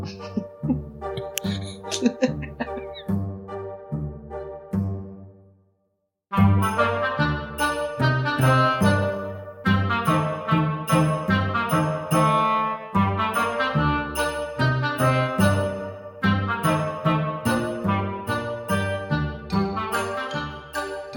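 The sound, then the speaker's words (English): A bright musical jingle with bouncy, steady notes; a lighter opening drops out briefly around six seconds, then fuller, louder music picks up and plays on without any voices. “Let's have a jingle, then we'll do a quiz.”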